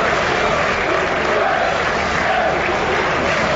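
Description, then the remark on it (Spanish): A large stadium crowd of Sociedad Deportiva Huesca fans roars in a steady, continuous ovation for the player Cucho, thick and constant throughout, with a distant, washed-out quality and no clear individual voices standing out. “la ovación lejana, porque es de la afición”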